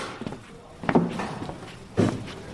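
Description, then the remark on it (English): A few slow footsteps crunch over loose rubble and stone in the ruins of a Roman town buried by volcanic material, two heavier steps standing out, against a quiet outdoor background, walking carefully into a commercial area toward a bakery. “we're being quite careful about where we're treading, but here we've come into a bakery.”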